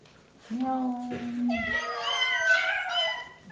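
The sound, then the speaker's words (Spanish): A cat meows in long, drawn-out cries, starting low and steady, then rising into higher, wavering wails that overlap and continue loudly to the end. “Hasta que un día, un gato.”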